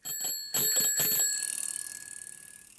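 bicycle bell ringing

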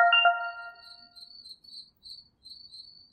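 crickets chirping

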